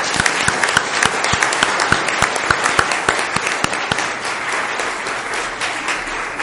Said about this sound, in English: These guys did a fantastic job, and I'd like for us to give them a round of applause.